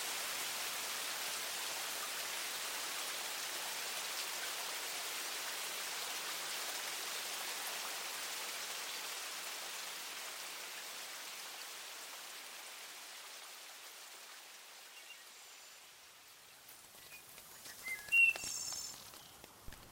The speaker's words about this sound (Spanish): Vamos, anda, ponte la chaqueta que empieza a llover.